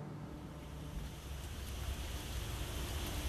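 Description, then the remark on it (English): A steady, dense wash of heavy rain roars continuously at moderate loudness, a broad hissing rumble with no pauses and no voices. “In this rain?”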